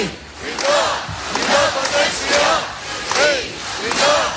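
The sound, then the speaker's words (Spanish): A large crowd of about 28,000 separatist independence protesters marching in the street shouts and chants loudly, many voices rising together in repeated surging cries with a steady, rhythmic pulse and no break in the roar. “Sí, gritaba mucho.”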